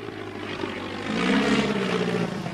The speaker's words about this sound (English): A small biplane swoops down above him and he looks round in delight.